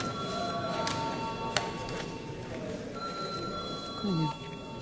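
A parliament voting bell rings in a long, steady electric tone for several seconds, called before deputies vote on a draft law in its second reading, with a low murmur of voices underneath and a couple of sharp clicks.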